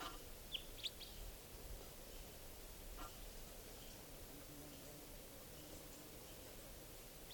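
juvenile wild bird calling

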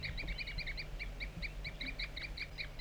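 wild bird tooping calls

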